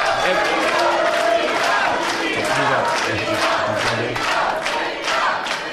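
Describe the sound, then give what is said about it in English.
A loud, dense crowd of fans in a show audience yelling and cheering continuously, many voices overlapping in a steady roar with occasional rising shouts throughout. “I think they're yelling that because they're all fans.”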